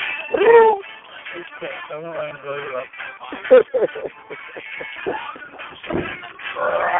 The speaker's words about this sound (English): Meow. Come on, come on.